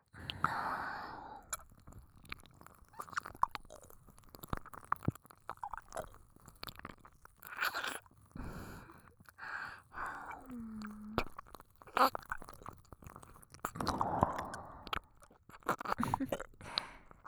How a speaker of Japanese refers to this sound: もしかしてお耳舐められるの初めてだったかな。